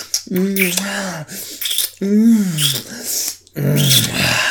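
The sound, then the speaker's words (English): A man growls low and rough several times in quick succession, loud, with short breathy pauses between the guttural bursts and no speech. “And growl on it.”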